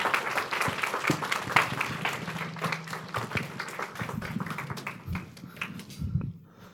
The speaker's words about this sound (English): Anyway, can we give Pastor Patrick a warm round of applause?